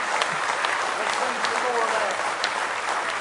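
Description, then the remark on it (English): A church audience claps in praise to the Lord one morning, a dense, steady wash of many hands clapping at once, loud and sustained for the full few seconds with faint voices blended underneath. “Let's give the Lord one more hand clap of praise this morning.”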